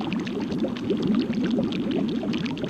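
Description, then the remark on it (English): Thick liquid bubbles and gurgles continuously in the witch Morgana's cauldron, like a cauldron on the boil, a dense, steady churn of overlapping pops at moderate loudness with no voices. “To do that, approach the bubbling noise.”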